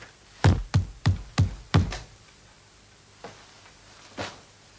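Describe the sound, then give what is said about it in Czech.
Five heavy, evenly spaced thuds bang against a wall in quick succession as a signal for quiet, followed after a pause by two fainter, isolated knocks. No one speaks. “Každý normální člověk přeci ví, že když slyší takové zabouchání na zeď, že to znamená klid.”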